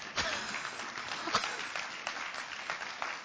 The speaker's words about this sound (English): Let's clap the Lord for the grace.